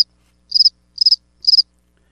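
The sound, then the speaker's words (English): Three evenly spaced cricket chirps, each a quick trill of several pulses, ring out clearly against complete silence with no voices present. “This just in, Democrats working hard to give crickets the vote.”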